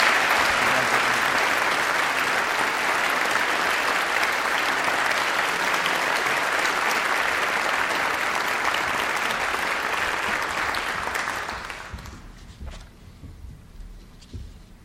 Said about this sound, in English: Please give these folks a hand of applause.